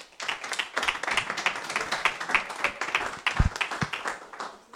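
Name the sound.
audience applause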